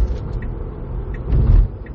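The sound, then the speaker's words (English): Steady low rumble of a car interior while driving, a dull engine and road drone that swells louder briefly toward the end, with faint high ticks and no one talking. “I'm gonna be honest, this might be my last episode in the car just because I can't focus when I'm in this motherfucker.”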